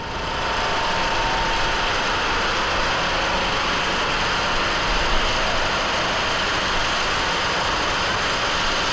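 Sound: crane engine running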